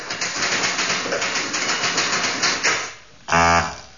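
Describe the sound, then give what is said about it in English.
Rapid, steady clatter of Smith Corona typewriter keys for about three seconds, then a short pause and a loud, buzzy mechanical tone that cuts off abruptly. No one speaks. “I would have bought it no points for identifying it as a Smith Corona.”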